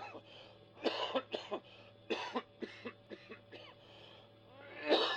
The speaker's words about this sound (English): I heard him cough. Did you hear that cough? I hope he's all right. He got out of his sick bed to come here this evening, you know.